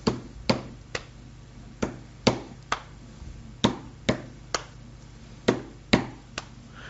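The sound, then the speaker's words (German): Sharp wooden knocks tapped out in a rhythmic pattern, mostly in pairs with short pauses between, as someone knocks out a song's rhythm on a surface for a listener guessing game. About fourteen raps, fairly loud, with no voices. “Moment, ich klopfe.”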